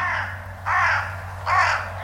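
A crow caws three times in a steady rhythm, harsh, each call rough and drawn out, with a low steady hum underneath and no voices.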